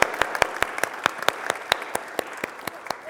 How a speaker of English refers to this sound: So big round of applause for them. Thank you very much.